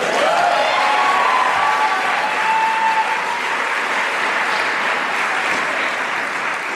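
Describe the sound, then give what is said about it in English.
Steady audience applause at the Library of Congress for Poet Laureate Tracy K. Smith's opening reading fills the whole stretch, a dense wash of many hands clapping at an even loudness, with a few faint whistles or cheers rising briefly near the start. “You may clap right now.”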